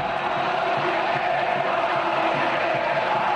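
football fans chanting

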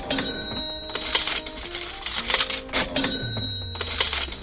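cash register ringing

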